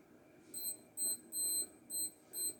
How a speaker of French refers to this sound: À 7h40, mon réveil sonne. Je l'arrête.